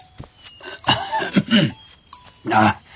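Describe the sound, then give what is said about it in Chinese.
An elderly white-haired man's rough, raspy coughs sound from an inner hall in a few harsh bursts, separated by short pauses, the last one the loudest. “就在此时，内堂里是咳嗽声响，走出一位白发老人来。”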